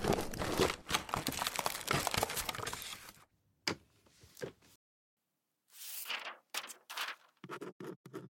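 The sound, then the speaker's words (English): Paper being crumpled, a dense crinkling burst for about three seconds, then a pause with a few scattered rustles, followed by more sharp crackling crumples near the end. “Damn it, don't waste the paper”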